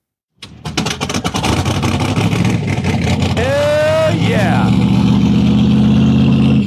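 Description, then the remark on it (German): A Boss Hoss V8 motorcycle with a 383 stroker engine barks to life and roars loudly, climbing through a sharp rev before settling into a deep, rumbling idle, with a man shouting excitedly over it. “Ja, gut, dann steigen wir jetzt aus dem Start einer Boss Hoss. 383er Stroker-Motor.”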